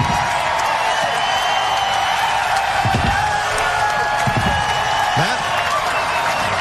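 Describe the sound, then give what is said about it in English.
A large crowd of fans cheers in the stands under the lights at Bristol after Chase Elliott wins the NASCAR All-Star stock car race, a steady, loud, unbroken roar with scattered claps and shouts rising out of it. “Mike, you can hear the cheers from the fans”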